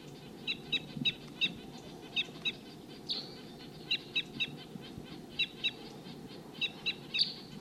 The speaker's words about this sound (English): Wild bird tooping. Sounds like there's another flock of the same call type around here somewhere.